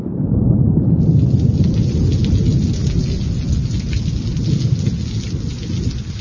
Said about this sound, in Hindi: ग्रीष्मकाल बीत गया, वर्षा आरंभ हो गई।